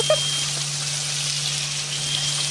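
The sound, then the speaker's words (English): Bacon sizzles steadily in a pan of dark, muddy brown fat, a continuous crackling hiss with faint pops, over a low electrical hum. No one speaks. “The bacon in. Look at the filthy colour of that fat, though.”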